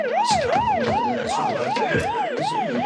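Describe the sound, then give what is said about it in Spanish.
Ambulance and police car sirens wail together as more patrol cars and ambulances arrive on the street of a bank, their pitches rising and falling in a steady, rapid cycle that sounds loud, with no voices. “Han llegado más patrullas y arriban ambulancias.”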